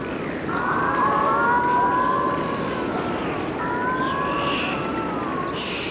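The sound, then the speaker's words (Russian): A dolphin's signature whistle, its own individual call: two long, smoothly gliding tonal whistles with faint higher harmonics, repeated with a short gap, over a steady hiss of underwater background noise. “Какой-то особый росчерк, особый свист.”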